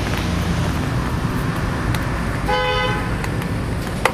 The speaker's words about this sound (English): There's a car, go around that.